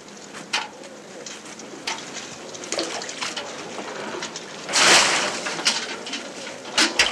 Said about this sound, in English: Start the warm water.